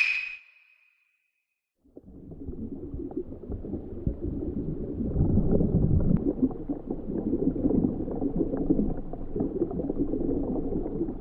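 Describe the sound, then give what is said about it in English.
A short bright chime rings, then after a brief pause a steady, fairly loud wash of flowing water from a Japanese river fills the scene with continuous bubbling and gurgling, with no voices. “Okay, conversation takes place at... 日本の川。 A Japanese river.”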